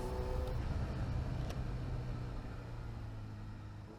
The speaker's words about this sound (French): Je vous propose une petite balade à moto sur la côte basque. Entre Getxo et Bermeo, les virages se succèdent et font le bonheur des motards du coin.